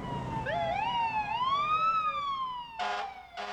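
Fire truck sirens wail loudly, their overlapping tones sweeping up and down, followed by two short, blaring horn blasts near the end, as fire trucks parade Petersburg's Devil's Thumb Shooters team through town in a noise parade welcoming them home. No one speaks.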